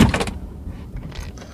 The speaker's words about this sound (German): Tür auf, sehr gut.